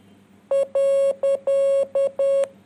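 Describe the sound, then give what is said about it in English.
Morse code beeps for a full stop: six steady, mid-pitched electronic tones alternating short and long, dot-dash repeated three times, loud and clear with no voices. “That was dot dash dot dash dot dash.”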